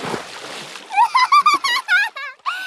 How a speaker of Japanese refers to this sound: 川に引っ張り込んでやったぞ。これで一緒にずぶ濡れだな。